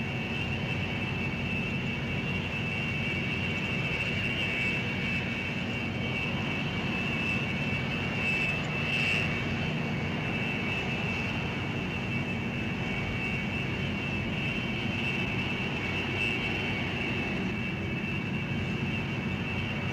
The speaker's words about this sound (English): Thanks to the jet's black cockpit philosophy, engine startup preparation takes less than 10 minutes. When starting the Global's 18,650-pound thrust GE Passport engines, FedEx automatically calculates any time required for the rotor to arc